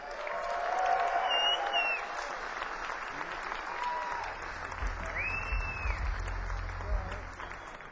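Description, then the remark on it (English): A crowd applauds steadily and fairly loudly, welcoming a band onto the stage at Cruise of the Edge; dense clapping mixed with whistles and scattered cheers, while a low rumble swells underneath in the second half. “Please give them a loud round of applause.”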